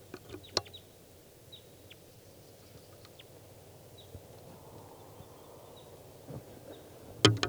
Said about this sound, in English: I've 16 more wild birds here. Here's a wild bird.